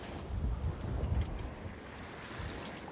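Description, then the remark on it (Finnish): Steady wind buffets the microphone while water rushes and splashes against a moving sailboat's hull in a good sailing wind, a continuous wash of noise with gentle surges and no talking. “Ärsyttää lopettaa tai kääntyä takaisin nyt, kun on tällainen hyvä tuuli. Mutta nyt on kyllä aika upeeta purjehtimista.”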